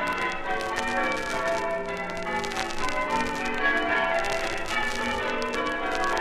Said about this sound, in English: Double grand set triples, Albanian surprise maximus, splice Tedman and grand circators are some of the names of methods that can be used to ring bells. The one you can hear now is called Tedman triples, and it was composed in the 18th century.